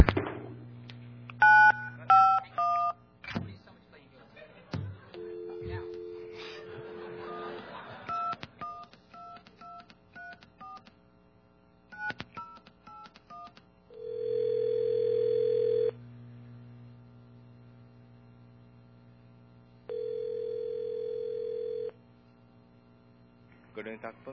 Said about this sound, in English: Okay. I forgot, in this city, you have to dial the full 10-digit phone number. I forgot that, okay? I'm from Long Island. We still have 7-digit phone numbers out there. Okay, let's try that one more time.